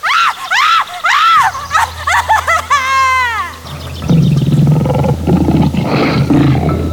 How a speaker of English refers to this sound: Lion!